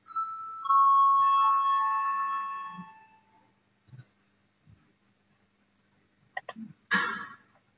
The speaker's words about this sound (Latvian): Lūdzu zvanu, balsosim par piekto.